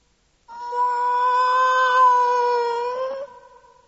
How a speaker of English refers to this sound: A black cat. A black cat.